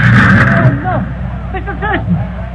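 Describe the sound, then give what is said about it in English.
A driverless truck's engine rumbles low and steady as it backs up, rising slightly as if revving, while voices shout over it. “Hey, look out where you're backing that truck!”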